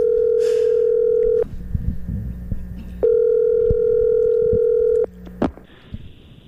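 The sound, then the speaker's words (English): A radio show's phone call to Tiger Woods connects: a brief burst of dialing noise, then two long, steady, mid-pitched electronic ring tones separated by a pause, ending with a sharp click as the line picks up. “So let's give Tiger a call.”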